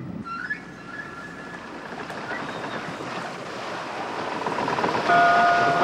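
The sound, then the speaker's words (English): A sailing ship at sea: steady wash of waves and rushing wind, with thin high creaks and whines from the rigging drifting over the surf, the roar swelling louder toward the end. “But in the 19th century, sailing ships like this one began to be replaced by steamships, another invention of those strange land animals.”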